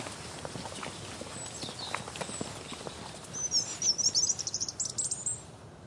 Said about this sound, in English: And just the birds are what's really capturing me today.